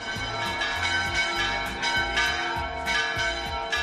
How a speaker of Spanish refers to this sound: Según cómo sonasen las campanas, así se anunciaba la llegada, por ejemplo, de un nuevo vecino, un recién nacido, a la comunidad.